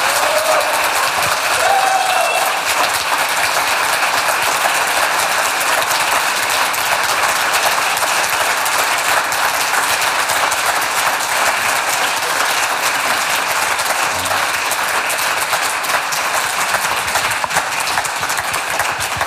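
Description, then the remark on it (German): Sustained audience applause for the guests, a dense, steady wash of many hands clapping at an even loudness for the full twenty seconds, with no one speaking over it. “Ja, das ist Ihr Applaus, dem Publikum hat es gefallen.”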